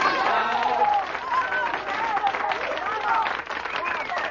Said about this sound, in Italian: Grazie per l'intensa emozione. Ragazzi, un bello applauso al signore.